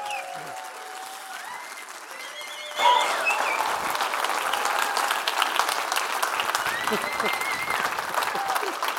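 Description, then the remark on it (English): A crowd welcoming new church leaders bursts into loud, sustained applause with whoops and cheers, the clapping swelling suddenly after a few seconds and continuing as a dense, steady roar. “and I want you all to honor and welcome them to this house with a lot of whooping and hollering and cheering.”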